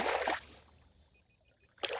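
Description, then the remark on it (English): Water splashes and rushes in broad, noisy surges at the start and end, with a calmer, quieter stretch of trickling between them and a few faint high chirps. “Hear the water, my friends.”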